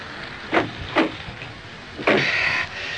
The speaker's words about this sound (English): I'll close the door and come around the other side.